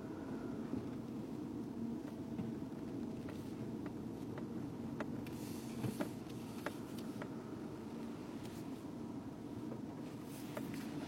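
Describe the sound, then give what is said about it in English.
A pickup truck engine rumbles steadily outdoors in front of a home, a low continuous drone broken by occasional sharp clicks and knocks, with no voices. “Truck jumping this pickup truck here in front of my home.”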